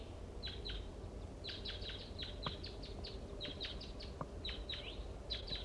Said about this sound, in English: I think the wild birds are flying around again. Start recording. Some crossbills are down the hollow and they sound like little guys.